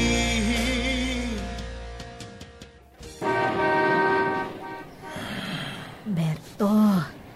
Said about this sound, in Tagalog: Nandito na tayo sa terminal ng bus.